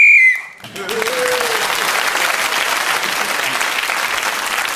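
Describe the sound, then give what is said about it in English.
A short, shrill whistle blast sounds once, signalling that a round's 60 seconds are up and giving an extra point to whoever is speaking, then gives way to loud, sustained applause that carries on steadily to the end. “That whistle tells us that 60 seconds are up, and whoever is speaking that moment gains an extra point.”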